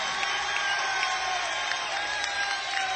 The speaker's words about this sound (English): You've been a really great audience tonight. You've been moving it. How's about giving yourselves a big cheer? Give yourselves one.